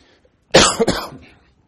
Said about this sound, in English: Apologize for my cough. I was ill a few weeks ago, and I'm feeling much better, but the cough does still kind of hang on for a while.